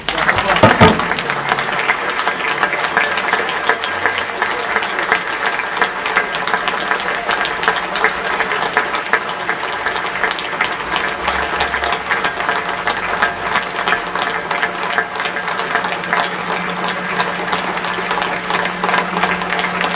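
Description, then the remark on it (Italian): Sustained applause from a sizeable crowd at the close of a funeral service fills the whole stretch, dense and steady clapping with no pauses, its intensity holding level throughout. “E diciamo un ciao ancora grande con un applauso a Luigi.”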